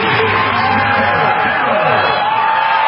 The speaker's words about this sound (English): Awesome, awesome moment. You can hear the crowd. Everybody understands what's happening right now. This is a pretty cool moment.